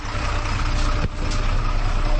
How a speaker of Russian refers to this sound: Оглушительный рев двигателя, что слышно особенно ранним утром, спадающие обороты при переключении автоматической коробки передач, а после – характерный столб черного дыма.